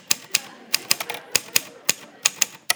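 Typewriter keys clatter in an uneven burst of sharp, bright strikes, about a dozen crisp mechanical clacks with short pauses between them, no voices present.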